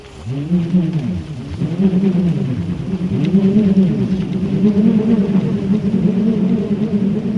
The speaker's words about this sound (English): Furthermore, they create strange sounds by swinging a toy that consists of a little piece of wood attached to the end of a whipcord.